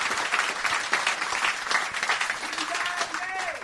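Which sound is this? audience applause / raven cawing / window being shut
audience applause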